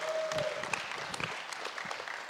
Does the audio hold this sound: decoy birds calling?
no